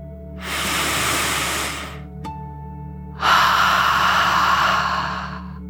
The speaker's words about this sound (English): As you imagine your whole body lightly floating in the water, let's take one more deep dragon breath, in and out.